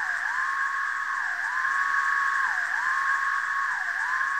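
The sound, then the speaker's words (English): A dense, droning chorus of thousands of periodical cicadas calling at once fills the air, a steady whine that sags and recovers in pitch roughly once a second, loud and unbroken with no voices. “It was just absolutely amazing, that sound of thousands of periodical cicadas calling at once is so eerie and so wonderful and incredible.”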